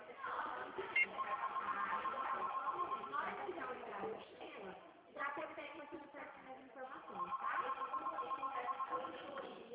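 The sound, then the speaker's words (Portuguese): A telephone rings in repeated bursts, trilling on and off while people talk over it; the whole recording sounds thin and muffled, like it's coming through a phone line. “Esse telefone é a hora que eu fico louquinha. Ele toca, toca, toca tanto.”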